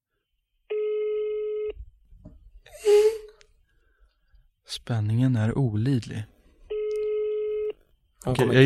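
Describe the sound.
An outgoing phone call's ringback tone sounds twice, each a steady buzzing tone about a second long, with a sigh and a short spoken remark in the gap between them.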